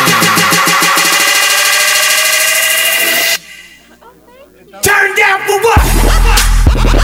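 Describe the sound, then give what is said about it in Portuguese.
A trucker's 440 truck with a 25-metre rig, from Jaru, revs loudly in the 'tubo' procedure, its pitch climbing, then drops off briefly while a voice is faintly heard before the roaring engine surges back in. “O homem do 440 no 25 metros. Esse é o procedimento do tubo, meu jovem.”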